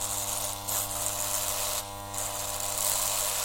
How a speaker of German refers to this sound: Wenn heute wie selbstverständlich im Bad die Scherköpfe surren, wenn es bratzelt bis zum glatten Ende